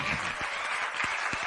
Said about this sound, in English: Come on, clap it up for him.